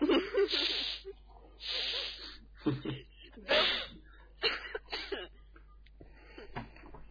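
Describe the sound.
A run of sharp, breathy sniffs through the nose, about six or seven irregular hissing bursts of varying length, with faint voiced murmurs mixed in between them.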